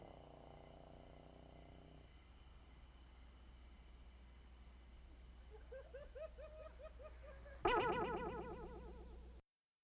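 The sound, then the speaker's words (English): A steady, high-pitched chorus of crickets and katydids drones through the warm autumn night air, with rhythmic chirping pulses building midway and a louder burst of insect calls near the end. “Crickets and katydids chirp and howl in the warm autumn air.”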